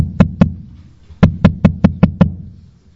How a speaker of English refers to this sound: So anyways, the second time they knocked.